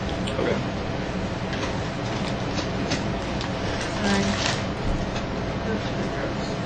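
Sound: train sound effect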